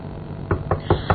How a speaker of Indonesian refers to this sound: Dan sampai pada sebuah rumah yang cukup teduh. Aku pun mengetuk pintunya.